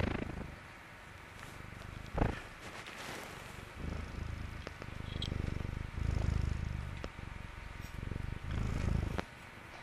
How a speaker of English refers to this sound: I believe that cat is only 8 pounds. She's the smallest of the bunch, but she's also the loudest.